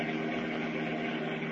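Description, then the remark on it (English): The powerful Batmobile speeds along a country highway, its engine droning steadily and continuously with a dense, even roar; no voices. “And as we continue now, they are speeding along a country highway in their powerful Batmobile.”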